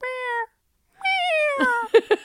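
A cat meows twice up close and loud, a short cry then a longer, wavering one, followed by a few quick chirping bursts, with no one talking.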